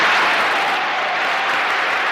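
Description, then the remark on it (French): Steady applause from an audience after a speech by Césaire, applauded by Frantz Fanon; dense clapping that fills the space evenly and loudly without pausing, with no voices standing out above it. “La verve et le verbe de Césaire, applaudi par Frantz Fanon, qui à son tour s'exprime.”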